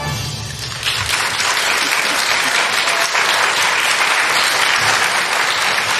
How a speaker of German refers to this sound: Ja, und vor allem, da merkst du halt auch mal wieder, wie gut das Publikum trainiert ist, wenn der Trippeltusch kommt, wird geklatscht.